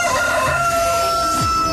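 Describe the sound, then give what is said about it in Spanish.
A rooster gives one loud, drawn-out crow as the ident for the El Gallo show on Radioactiva, its harsh call rising and then trailing off over a steady tonal background with no talking. “El gallo.”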